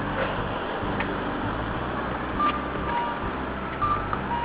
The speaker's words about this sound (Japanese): いやー、やっぱ国道うるさいですね。もしかしたら車の音がブンブンブンして、俺の声全く聞こえないですね。